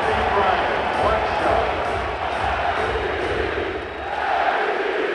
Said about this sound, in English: He performs in front of an adoring home crowd to the constant chant of MVP, MVP.